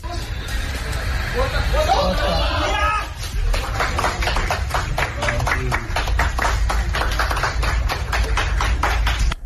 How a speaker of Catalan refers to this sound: Quatre aplaudiments ja i van seguir treballant. Ja està.